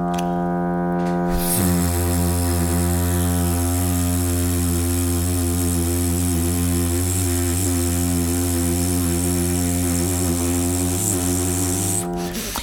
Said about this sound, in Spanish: Como escuchas, el objetivo es conseguir una vibración muy suave, muy piano y muy larga. Es muy importante que nuestros labios vibren durante mucho tiempo para trabajar esa eficacia vibratoria y esa eficiencia vibratoria, ¿vale?